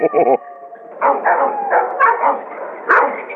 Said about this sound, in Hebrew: נו, נו, באמת, אדוני, זה מעולף זה, תשמע איזה נביחות, הוא נשמע חיה, נשמע מסוכן מאוד.